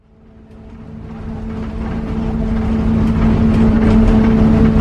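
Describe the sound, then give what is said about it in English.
A bus engine hums steadily with a low, droning tone, growing gradually louder and rougher as it runs, with no voices over the continuous mechanical rumble. “As the bus's engine hummed with a persistent rhythm, tensions within the confined space escalated into a full-blown argument.”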